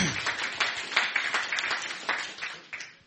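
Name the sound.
audience clapping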